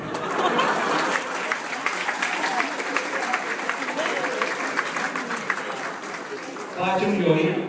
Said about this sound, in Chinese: 来宾们依依惜别的话语和热烈的掌声渐渐把现场的气氛推向高潮。